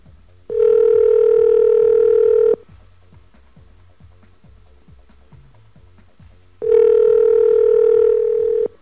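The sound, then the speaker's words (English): Telephone ringing heard over the line when calling a Sprint phone: two long, steady, buzzy tones of about two seconds each, separated by a pause of roughly four seconds, with faint ticking underneath. “Very nice ring, Mike.”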